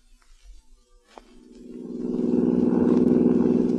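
A car engine drones as the vehicle drives along a highway, starting quietly and swelling into a steady, loud low hum with a rough, rumbling texture. No one speaks.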